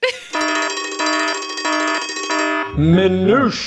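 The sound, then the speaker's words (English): A loud electronic alarm blares in four rapid, evenly spaced buzzing bursts, followed by a brief wavering voice-like warble at the end. “Minutia alarm, I'm calling it.”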